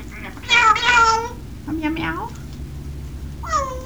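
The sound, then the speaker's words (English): A voice imitates a cat's meow three times: a long, loud, wavering meow first, then a softer one, and a short final mew, with low background hum throughout. “Old MacDonald have a kitty?”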